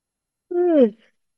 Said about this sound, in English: And maybe taking a little yawn.